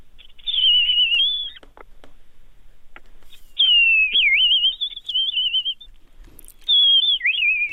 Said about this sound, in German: Rotkehlchen singen auch im Winter, und zwar sogar doch die Weibchen. Normalerweise singen ja nur die Männchen, aber bei Rotkehlchen außerhalb der Brutzeit singt auch das Weibchen. Das ist der silberhell-perlende Gesang.